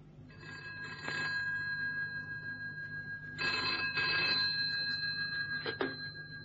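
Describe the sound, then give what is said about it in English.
A telephone bell rings in metallic bursts, one brief jangle followed by a longer double ring and another short one, clear against a low background hum, with no one talking. “Now I've got an important phone call to make.”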